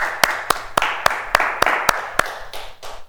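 Audience applause: a steady wash of many hands clapping, with one sharp, loud clap repeating in an even rhythm about three times a second on top. The clapping fades slightly toward the end, with no voices.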